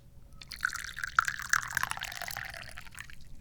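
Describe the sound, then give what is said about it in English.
Tea being poured into a cup, a steady stream of liquid with bright splashing and dripping tones that rises slightly in pitch as it fills, lasting a few seconds with no talking. “I'm the chairman of the Dubious Goals Committee, and I need to pour some tea.”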